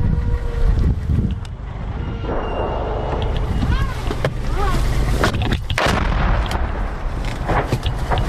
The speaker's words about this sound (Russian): Буквально щойно, FPV-дрон.